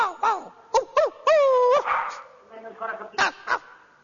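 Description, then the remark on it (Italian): A dog barks in a loud, irregular burst of sharp yaps, breaking into a drawn-out whining howl midway before a few more quick barks. “C'era un cane.”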